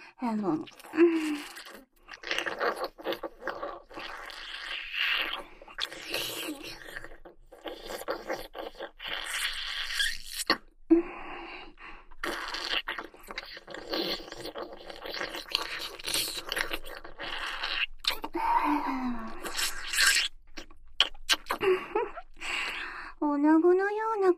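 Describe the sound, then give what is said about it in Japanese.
Wet slurping, licking and sucking mouth sounds run almost continuously in irregular bursts, with occasional soft breathy vocal noises mixed in. “今度はすするように、甘く、ねっとりと舐めしゃぶってやるわ。”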